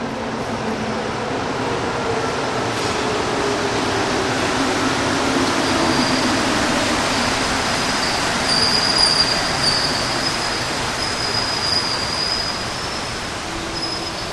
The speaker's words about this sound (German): Und dann rauscht aus der Ferne fast bedrohlich ein Zug heran. Erst nur ganz leise wird er schnell lauter, bis er mit Wucht aus dem Tunnel in die unterirdische Halle geschossen wird.